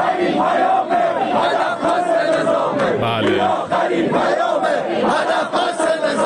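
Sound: protesters shouting slogans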